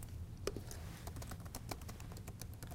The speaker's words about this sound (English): We can do this by clicking the Store button in the lower left and typing App Studio into the search bar, like this.